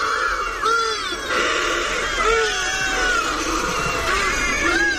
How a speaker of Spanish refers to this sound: los virotes y las baldrillas, que son aves marinas que están todo el año, toda su vida en alta mar